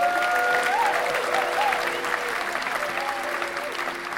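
A crowd at Hope City church in Sheffield applauds steadily and loudly for several seconds, a dense wash of clapping. Faint sustained musical tones drift underneath it.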